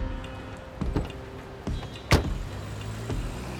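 50-year-old Father Lawrence Martin Jenko slides into a car's passenger seat with soft rustles and creaks, then a car door shuts with a solid thump, all over a low, steady engine hum; Beirut, January 8, 1985.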